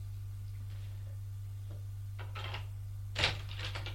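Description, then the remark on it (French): A door opens with a few soft handling noises and then a sharp latch click over a steady low background hum, with no voices. “La porte s'est ouverte.”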